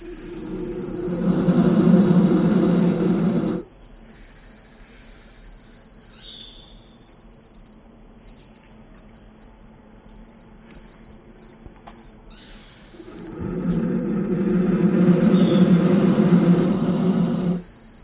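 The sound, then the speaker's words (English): Two baby black vultures, small enough to fit in a hand, let out two long, rough, low roars in their nest hollow in a large fig tree, recorded with microphones dropped into the hollow; a loud burst early and another after a quiet gap, over a steady high chirring of insects. “As he looked, he dropped a couple of pairs of microphones down into that hollow, and those baby vultures let out these roars.”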